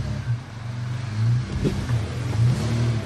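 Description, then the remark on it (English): A truck engine revs and strains in steady bursts, rising and falling as it climbs up a waterfall over rough terrain, loud with a constant rumbling undertone and no voices. “But we kept pushing forward, checked the vehicles for damage, and headed up the waterfall.”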